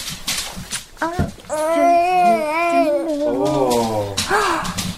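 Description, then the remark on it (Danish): A baby fusses and cries, with a few short whimpers followed by a long, wavering wail and a second drawn-out, lower cry, with faint background noise between them. “Baby.”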